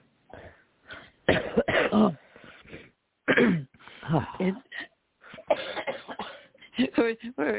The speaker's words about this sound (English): we're a good crew here with our coughing and sniffling. My medicine just dries me out so much. Yeah, I still have phlegm, but then I get so dry it's hard to talk.